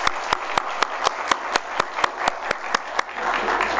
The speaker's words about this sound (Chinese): 好，我们给我们的小孩子们一个热烈的掌声来，谢谢他们今天早上。